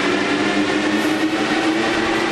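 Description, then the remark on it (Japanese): A new driverless metro train on Line 1, at a station platform fitted with platform screen doors, rumbles steadily with a low electric hum running underneath, loud, the noise staying even throughout with no voices. “ホームドア完備されてて、無人で運転してて、車両も新型でわざわざ手動じゃないというドアが、非常に快適な路線です。”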